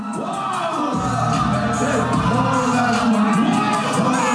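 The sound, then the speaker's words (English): A large crowd at a rap concert at Revolution Live cheers and shouts continuously, with whoops and overlapping voices rising and falling over a dense, steady roar that never drops away. “The crowd seems really into it.”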